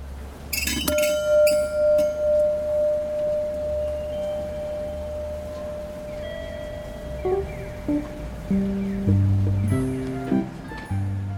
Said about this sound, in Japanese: さて、建物を出るとそこには鐘が。向かい鐘と呼ばれるもので、明治から1965年頃まで上り列車には2打、下り列車には3打と決め、鐘を鳴らした後十数分で列車が到着したそうです。今日は小樽散策のスタートに向かい鐘の音を聞いてみましょう。